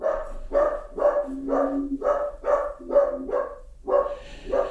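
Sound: dachshund barking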